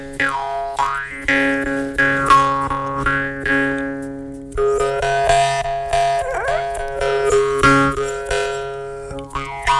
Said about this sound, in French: je te laisse entamer avec une lamelle métallique qui fait du bruit quand on la fait vibrer.